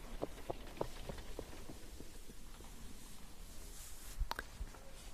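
Horse hooves clip-clop on a cobbled street in a town, with carriages around, in a steady, fairly quick rhythm, the sharp strikes loudest at first and then fading into a soft outdoor background, with a louder knock near the end.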